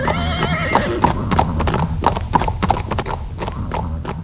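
The horses of a marching military unit walk with a steady, even clip-clop of hooves on hard ground, the knocks evenly spaced and fairly loud, as the unit halts in Bieździeca in the autumn evening. A horse whinnies briefly at the start over a low rumbling background.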